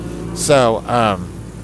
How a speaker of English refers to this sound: Yeah, the street sweeper's here now to make more fucking noise for me. Oh, my God, that's why there's no cars here, the fucking street sweeper.